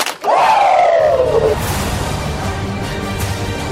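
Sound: two hand claps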